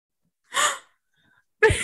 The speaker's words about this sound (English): Gasp.